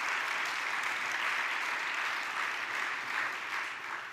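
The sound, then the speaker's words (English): A crowd claps steadily for about four seconds as a hand clap given to God, a dense, even wash of many hands at a fairly constant loudness, with no voices standing out. “Let's give God a hand clap because He has been faithful.”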